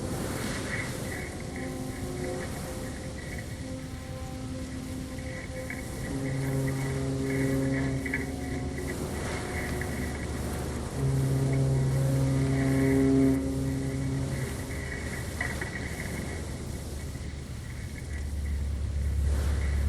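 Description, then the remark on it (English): The engine of an old bus, of a type like a larger police van, drones steadily throughout during a guided tour in the bus, a loud rumble with humming tones that swell and ease slightly as it runs, with no voices over it. “In einem alten Bus, von der Art eines größeren Polizeiwagens.”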